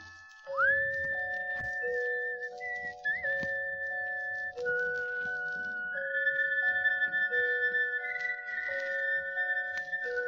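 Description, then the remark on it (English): Someone whistles a slow tune through an echo microphone, clear sustained notes with gentle slides between pitches, carried along over a soft, steady backing melody that continues throughout. “Now, to show you just how amazing the echo mic really is, I'll stand in a bright light and whistle at my shadow.”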